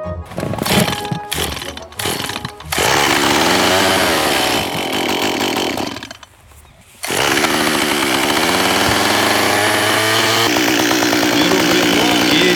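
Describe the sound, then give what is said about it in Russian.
A woodcarver's chainsaw sputters through a few pull-starts, then roars to life and runs loud. Its engine pitch rises and falls as it cuts into wood to carve a small object, with one brief lull midway. “Он заводит свой инструмент и решает для радиослушателей изготовить небольшой предмет.”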